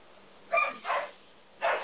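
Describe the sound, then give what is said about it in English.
Dogs barking and yelping in three sharp, harsh bursts with short gaps between, like a scuffle between dogs, moderately loud against a quiet hiss and no talking. “I know, it sounds like some dogs are fighting in the background.”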